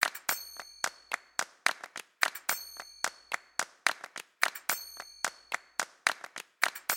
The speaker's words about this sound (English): incorporates two acoustic elements, hand claps and finger cymbals